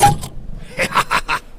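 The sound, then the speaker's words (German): A Philanker Kirsch cherry soda bottle pops open with a short, sharp burst, followed by four quick, evenly spaced hissing gushes of fizz and a faint low rumble underneath. “Ich plopp mal die Philanker Kirsch, oh, auf, ja? Das wird laut.”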